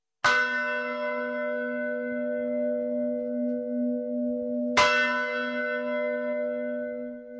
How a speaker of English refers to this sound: The sounds of bells echo across the town of Sázava from the lofty Gothic bell tower. For almost 1,000 years, the bells have been a source of local pride.